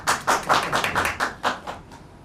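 An audience claps in a steady, even rhythm as a man is invited up, about four claps per second, moderately loud, fading slightly toward the end with no voices over it.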